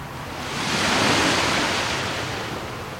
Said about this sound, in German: Außer den Wellen des Pazifiks, die friedlich plätschernd den Sandstrand erreichen, ist im Dorf Di Chato nichts mehr so, wie es einmal war.